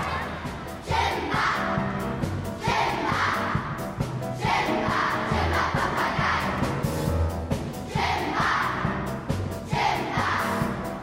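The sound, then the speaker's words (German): A large audience, many of them schoolchildren, in the Philharmonie concert hall cheers and shouts loudly and continuously as a sing-along song is announced, the roar swelling in rhythmic waves about every two seconds as if chanting together. “Jubel im Saal, als klar wird, jetzt kommt Djimba Papagei”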